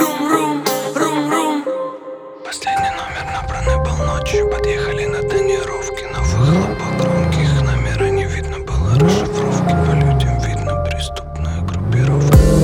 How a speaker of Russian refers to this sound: Подъехали на тонировке, на выхлопах громкие.